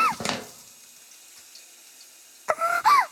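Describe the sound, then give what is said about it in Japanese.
Shower water runs in a steady, soft hiss, left spraying until the water turns hot before shampooing, with a louder splashy burst at the start and a brief voice near the end over the spray. “ではシャワーの水がお湯になるまでここで放水しておきまして、手のひらにシャンプー、泡立たせますね。”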